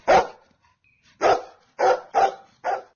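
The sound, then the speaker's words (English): A golden retriever named Pip barks five times in close succession, loud, with short gaps between the sharp, full-bodied woofs and a quieter stretch after the first bark. “hosted by the first Golden Retriever to host a Golden Hour on UK radio”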